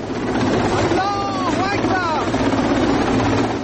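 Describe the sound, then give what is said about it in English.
A steady, loud roar of helicopter rotors and speedboat engines fills the whole recording, with a voice briefly calling out over the din partway through, as Iran's Revolutionary Guards seize the British-flagged oil tanker Stena Impero in the Gulf, masked troops rappelling onto its deck from a helicopter. “Troops wearing masks and carrying machine guns rappelled onto its deck from a helicopter.”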